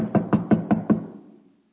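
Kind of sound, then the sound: impact, knocking on a gate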